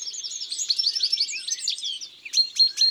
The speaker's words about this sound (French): Il y a aussi un chardonneret dans l'arbre. C'est ce joli babillage, rapide, avec des cris, des roulades, des notes un peu grinçantes, et même parfois des imitations d'autres oiseaux.